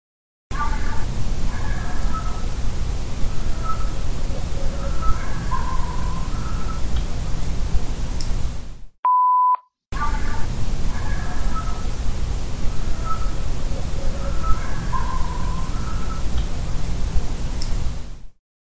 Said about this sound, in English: Here's some more barks, but notice these like weird whistles over top the barks. There's three whistles. You have to listen closely, and I will play this clip two times.